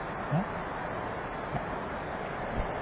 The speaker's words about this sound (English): So it's a bit noisy with the rain. Can you still hear me?